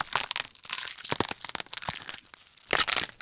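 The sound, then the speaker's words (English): Celery being snapped and twisted up close, a dense run of sharp, wet cracks and crunches with a loud final burst of splintering, resembling bones breaking. No voices. “Snapping celery and other crunchy vegetables are classic tools for these gory sounds.”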